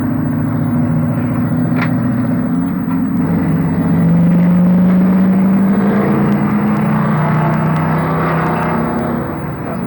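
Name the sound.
car driving past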